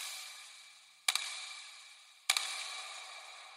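Two crisp clock ticks, roughly a second apart, sound clear over a steady airy hiss, with no voices present.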